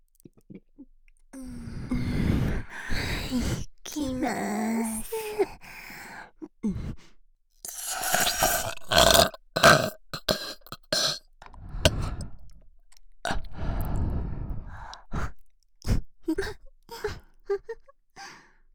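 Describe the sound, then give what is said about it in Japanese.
Several drawn-out burps rumble out one after another, mixed with breathy sighs and sharp gasps, loud and intimate with brief pauses between them and no talking. “ゲップ大好きでちゅもんね。”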